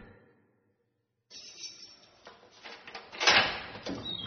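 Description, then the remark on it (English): After a moment of silence, a heavy prison door, number 6, starts grinding open with a rough, rattling scrape that builds steadily and peaks loudly near the end. No voices. “Open number 6 door.”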